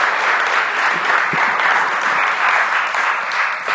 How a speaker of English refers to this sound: All right, let's give them a big clap. Thank you.